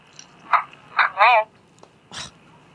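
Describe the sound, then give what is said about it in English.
Heavy breathing heard over a phone line: four rough, noisy breaths at uneven intervals, one drawn out with a raspy, voiced edge, muffled and thin like telephone audio, with no talking. “This is where he just breathed on the phone for a while.”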